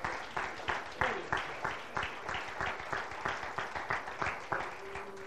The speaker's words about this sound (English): Could you clap one more time, please?